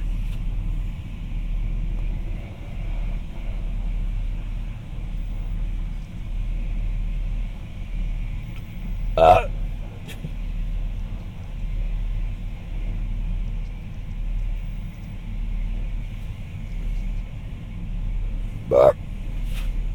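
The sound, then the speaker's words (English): A truck being washed in a car wash: a steady mechanical rumble with a constant hiss of spraying water, broken by two sharp knocks about ten seconds apart. “We are at the car wash getting my dad's truck washed.”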